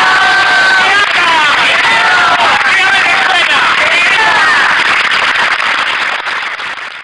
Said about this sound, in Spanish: agradecemos a todos los presentes y agradecemos a todos y nos damos un fuerte aplauso y ¡viva el Junquito! ¡Viva!